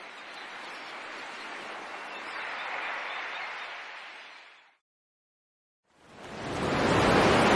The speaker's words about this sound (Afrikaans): Sjoe! Ek het die see nog nooit so woes gesien nie. Kyk waar swaan die branders. Al die rotsbanke is toe. Hy's kwaad.